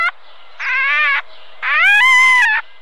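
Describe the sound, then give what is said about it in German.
Two drawn-out, wailing cries from red fox cubs calling for their mother, harmonic and plaintive, the second louder and rising into a shrill, strained peak before falling away; no talking. “In diesem Fall die Welpen des Rotfuchses.”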